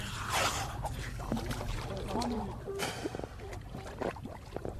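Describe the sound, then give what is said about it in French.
Water sloshes and splashes against a boat hull in irregular bursts while indistinct voices murmur over a low, steady rumble, as divers on the boat prepare for a dive, getting dressed and positioning cables. “Les sons à ce moment-là sont encore assez présents parce qu'on est en phase préparatoire.”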